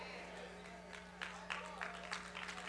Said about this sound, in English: Come on, I said, are you really ready for miracles? That's a sad clap.